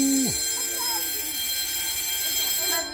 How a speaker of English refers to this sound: That was the bell, mashallah.